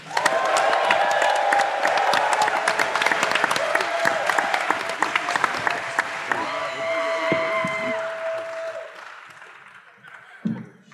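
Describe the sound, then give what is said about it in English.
A large crowd at the Skankfest 2025 comedy event breaks into loud, sustained applause with whoops and cheering for a comedian being introduced, the dense clapping holding steady for several seconds before thinning out and fading toward the end. “Ladies and gentlemen, big round of applause”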